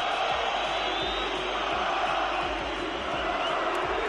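stadium crowd chanting

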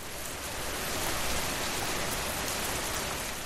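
autumn rain falling

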